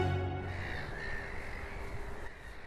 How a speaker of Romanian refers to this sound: Păsările pe care le auziți se numesc pescăruși râzători. Sună oarecum exotic, dar înregistrarea a fost făcută în București.